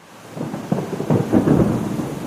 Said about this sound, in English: As a young boy, I remember having a fascination whenever I heard thunder just by sitting near the front door, looking out the window, and just watching with fascination as thunderstorms were passing through the area,